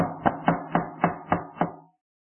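Six firm, evenly spaced knocks on the wooden door of an old-fashioned, big, wood-framed house, with a hollow resonant thud to each rap, steady in rhythm before falling silent.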